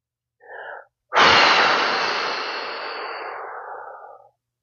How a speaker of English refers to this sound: Okay, breaths, not breaks. You don't need any breaks. Here we go. 4, 7, 8, breathing.